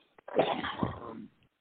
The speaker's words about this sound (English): No coughing